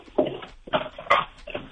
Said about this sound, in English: I like Chuck's, I want to hear more of this Chuck. She sounds awesome. She's awesome. All right. Do you want me to try to get her to bark again? One more time. Let's hear it,